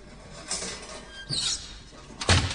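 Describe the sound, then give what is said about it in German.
A door is slammed shut in front of people with a single sharp, heavy thud near the end, preceded by softer creaks and rustling movement, with no one speaking. “Er hat uns die Tür vor der Nase zugeschlagen.”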